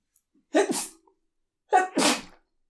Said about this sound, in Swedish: Prosit.